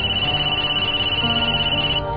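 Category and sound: signal or alarm, mobile phone ringtone ringing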